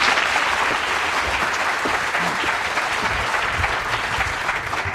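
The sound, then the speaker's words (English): A sizable Tool Time studio audience applauds a guest, steady, sustained applause filling the whole stretch, a dense wash of clapping at even loudness with no voices rising above it. “Give him a round of applause and sit over here,”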